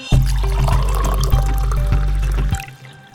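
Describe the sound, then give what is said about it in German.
Still water pours steadily into a glass in a studio for about two and a half seconds, fairly loud, then cuts off abruptly with a few last drips. “Ich schlage vor, unsere Hörerinnen und Hörer, die holen sich den ersten Kaffee des Tages, während wir hier bei stillem Wasser versuchen zu erläutern, worum es geht.”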